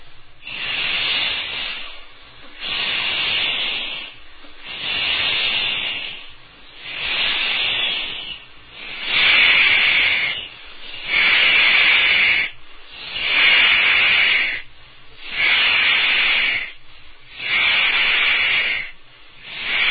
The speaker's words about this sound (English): Now, real breathing, remembering the exhalation. All together, up.